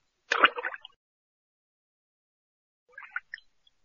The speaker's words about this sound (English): This is the only axe in the river, the god said, and threw it back into the water.